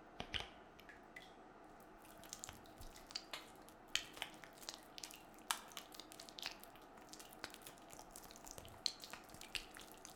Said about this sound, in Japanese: シャンプーも一度手でよくなじませてから空気を入れるように泡立てていきますね。